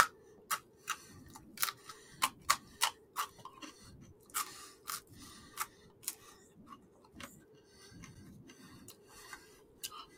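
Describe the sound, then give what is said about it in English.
Crunchy pizza crust being bitten and chewed, a quick irregular series of sharp, crackling crunches over a soft low rumble, with no one talking. “Hear how it sounds? Crust. Crunchy crust.”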